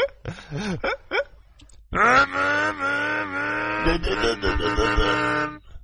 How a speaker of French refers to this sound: De bobsleigh à moteur.